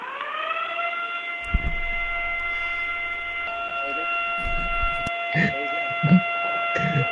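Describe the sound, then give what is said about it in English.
A phone's emergency alert test tone blares as one steady, unbroken, buzzy high pitch for the whole stretch of a full one-minute test, with a few bursts of people talking underneath it. “They're doing a test on the phone.”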